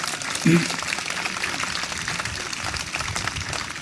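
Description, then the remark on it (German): Steady applause from many hands for the President of the Council of States (Ständerat): a dense, even patter of clapping that holds at a constant level for nearly four seconds, with faint voices underneath. “Applaus für den Ständeratspräsident, genau gleich wie heute für die Bundespräsidentin.”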